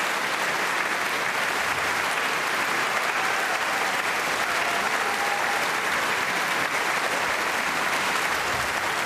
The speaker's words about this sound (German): Ja, Sie hören es am aufbrandenden Applaus. Inzwischen ist der Komponist Roland Kunz auf Bitten von Michael Sanderling und dem Solisten und Uraufführungsinterpreten Gustav Rivinius auf die Bühne gekommen. Verbeugt sich hier natürlich für das Publikum.